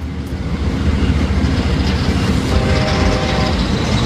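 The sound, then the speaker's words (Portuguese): A loud, steady rumble of a passing train, used as a sound effect in a radio jingle for Programa Igor Loyola on 620 AM in Natal, dense low clatter filling the whole stretch, with a faint tonal whine creeping in toward the end. No voices. “Programa Igor Loyola, o trem, trem, trem, trem, o trem da comunicação, o trem da comunicação.”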